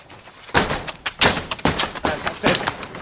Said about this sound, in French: Si on enfonçait la porte. C'est que... on n'a pas d'ordre. Vous connaissez le règlement? Oh, quelques coups d'épaule suffiront, on réparera au besoin les dégâts.